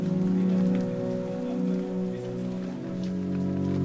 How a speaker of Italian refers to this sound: Regione di Sumi. Una forte pioggia sta scendendo su strade e abitazioni in questa piccola cittadina.